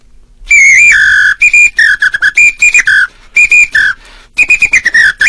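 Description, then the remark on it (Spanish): A Brazilian batucada whistle blown in loud, shrill bursts: a long opening blast, then quick rhythmic staccato toots that flip between two pitches, with no talking. “Lo que pasa es que es un silbato, no es el que traigo habitualmente, este es un silbato brasileño.”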